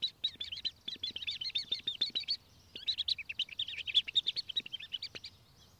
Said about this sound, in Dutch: De kip heeft zitten broeden en opeens barsten de eieren open en komen er kuikentjes uit.